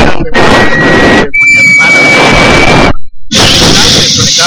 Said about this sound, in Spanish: El internet era de teléfono. Claro, el internet era de teléfono. Era el modem de 28.8.